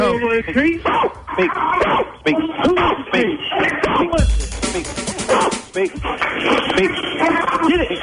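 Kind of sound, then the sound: animal, dog barking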